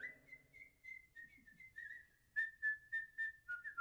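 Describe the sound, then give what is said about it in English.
A person whistles the short whistle melody of Sigurd fraternity, first in a sustained wavering tone, then in a series of crisp, rhythmic repeated notes. The whistling is clear, with no talking. “We whistle it with all our might, and oft you hear it day or night.”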